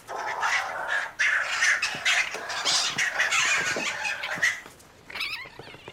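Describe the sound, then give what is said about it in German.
Stone martens screech harshly and continuously, a loud rasping noise with a brief break near the start and a pause before wavering, higher cries at the end. No one speaks. “Von den Tieren ist dann vor allem Knurren, Kreischen und Schreien zu hören.”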